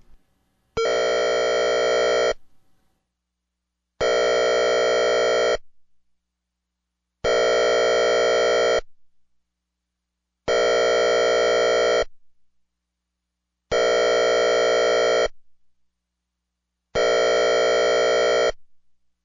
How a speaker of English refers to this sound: Now, you're going to hear an example of this, and you're going to hear the guy's voice again, so don't panic when you hear that. The all-clear signal. Discontinuous air horn.